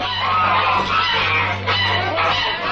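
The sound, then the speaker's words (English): A live goose held by a poulterer at an outdoor market cackles loudly and continuously, its harsh honking calls running together over a steady low background hum. “A poulterer holds a live goose.”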